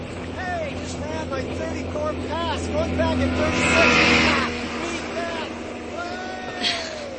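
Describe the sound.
A motorboat engine drones steadily as it tows a water skier at Quonicatog, Rhode Island, in summer 1965, its roar swelling briefly midway before easing off, with faint, indistinct voices and outdoor ambience around it.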